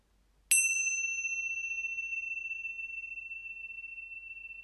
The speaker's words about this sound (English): When you hear the sound of the bell, you will see many different beings of the mytho group take shape around you.